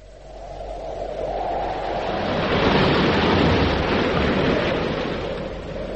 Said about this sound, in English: Over the sea, a tremendous wind was blowing. About Trail, it screamed and tugged at his clothes.